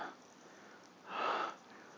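Airy breathing right at the microphone, as if into someone's neck and ear: a faint breath at the start, then one longer, louder breath swelling and fading in the middle, with soft hiss between and no talking.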